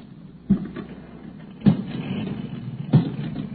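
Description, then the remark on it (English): A car engine starts and rumbles low and steady, with three dull thumps spaced about a second apart, and the motor grows slightly louder as the car pulls away. No talking. “Come on, hop in. I'll play chauffeur for you.”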